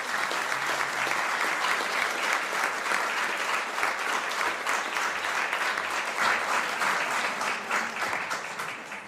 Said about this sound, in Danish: Ja, det er ærgerligt, at han ikke kunne høre os klappe her.